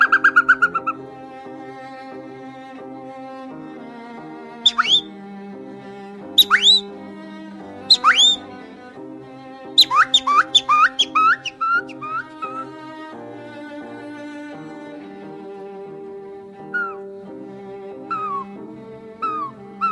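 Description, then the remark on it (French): A voice imitates birdsong with quick, sharp whistled chirps and trills in bursts, singing along to a piece by Schubert played by a symphony orchestra throughout. “tu fais un spectacle avec tous ces animaux ou pas? Je fais pire que ça. Je travaille avec les orchestres symphoniques.”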